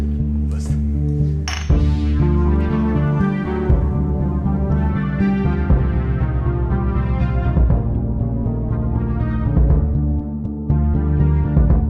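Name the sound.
beer glasses clinking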